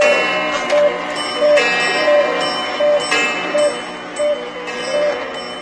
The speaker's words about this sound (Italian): Sono i miei orologi che sto sentendo? Sì, sono le 8. Perfetto. Il mio esperimento comincia bene. Sono tutti esattamente in ritardo di 25 minuti.